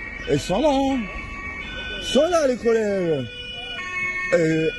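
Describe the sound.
Emergency vehicle sirens wail through a busy street in the centre of Montreux, their steady high tones held underneath while louder rising-and-falling voice-like glides come and go over the top.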